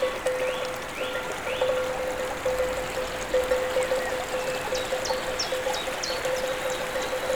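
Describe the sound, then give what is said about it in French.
In summer, a rushing mountain stream and waterfall pour steadily, while birds chirp in short repeated calls over the water, with a faint steady ringing tone underneath; cowbells are part of the scene. “Les oiseaux, la sonnaille, la verdure, le ruisseau et la cascade.”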